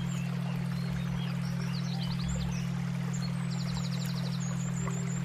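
Birds chirp in quick repeated trills, some sharp and high, over a steady rushing sound like flowing water and a constant low hum. No one speaks.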